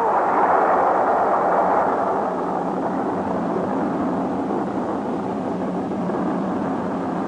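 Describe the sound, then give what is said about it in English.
A laboratory building explodes after a couple of dull thuds from inside: a loud, dense rumbling roar that fills the scene and holds steady for several seconds, easing off only slightly toward the end, with no voices. “But suddenly, from inside the building came a couple of dull thuds. And then the whole thing began to bulge as the seams began to”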